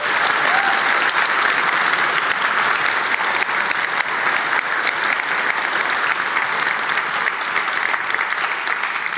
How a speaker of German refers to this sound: Also vielen, vielen Dank und bitte einmal kräftigen Applaus.